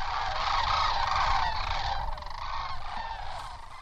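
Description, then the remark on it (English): A dense chorus of loud, rolling bird calls from a large flock of sandhill cranes, each bird about 4 feet tall, touching down at a wildlife preserve near the San Joaquin River, many voices overlapping continuously with no pauses, with a low rumble of wind or ambience underneath. “A huge flock of sandhill cranes, each bird 4 feet tall, is touching down at a wildlife preserve near the San Joaquin River.”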